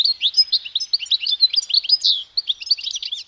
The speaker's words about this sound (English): The source of Vivaldi's inspiration? The European goldfinch. It's a tiny bird found throughout much of Europe, where it frequents gardens and roadsides.